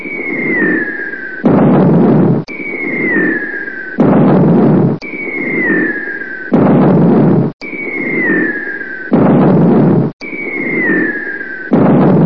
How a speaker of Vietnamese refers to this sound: Chỉ có tiếng bom, tiếng máy bay xa mãi phía đồng lộc. Những tiếng bom rền rỉ không ngớt.